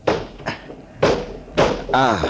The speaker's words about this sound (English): Now, I'm going to open this window. The salt air will make you sleep like a top. The sound of the waves will lull you. Seems to be stuck.